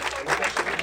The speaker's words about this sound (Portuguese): Salva de palmas, muito obrigado! Valeu!